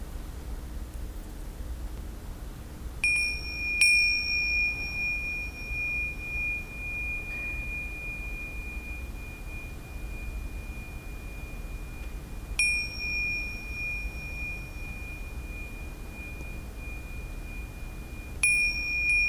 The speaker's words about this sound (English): I will use the ceremonial bell to finish the session. Beautiful sound.